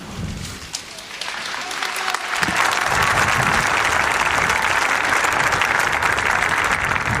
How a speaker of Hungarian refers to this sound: Épp azt említettem, hogy régebben ezek a dolgok milyen természetesek voltak, az, hogy ugye énekeltük a mi atyánk imádságot, vagy ez a taps a végén, és mennyire örülünk most neki, mennyivel másképp tekintünk rá, hát Istennek legyen hála, hogy megértük